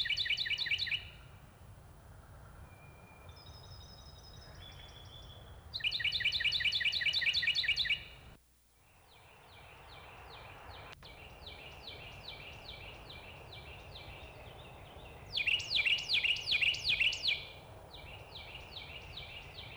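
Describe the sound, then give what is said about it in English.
Loud, ringing Carolina wren song, several examples including the tea kettle song, in rapid repeated phrases, with several bursts separated by quieter stretches of softer chirps and a steady low background hum. “Here are several examples of its song, including the tea kettle song.”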